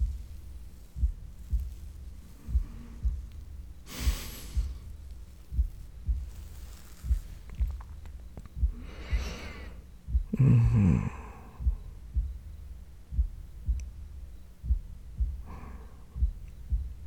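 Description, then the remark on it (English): A muffled human heartbeat thumps steadily at a moderate pace, with several soft breaths and sighs drifting over it now and then. “Is my heartbeat slowing?”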